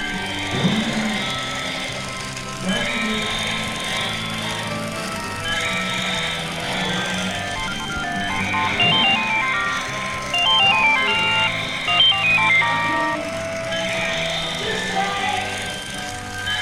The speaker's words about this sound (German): Okay, das war das Grunzen und ratternde Knattern von dem vor sich hin watschelnden und blinkenden Dinosaurier. Der hat sogar eine blinkende Zunge, die er regelmäßig raussteckt.